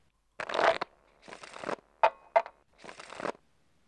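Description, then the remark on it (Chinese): Playing cards being shuffled in three quick riffling bursts, with a couple of crisp snaps as cards are dealt down between them during a card game; no one speaks. “学长，每次呢都是人家洗牌，所以比较累呢。”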